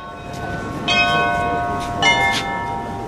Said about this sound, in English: And those are the bells of St. Michael's Cathedral